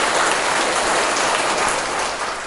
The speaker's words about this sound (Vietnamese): Giỏi quá, cho một tràng pháo tay.